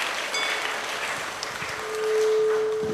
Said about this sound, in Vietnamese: Thì tất cả hãy cho một tràng vỗ tay thật lớn.